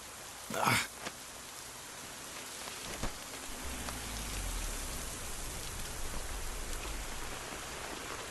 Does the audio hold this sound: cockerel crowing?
no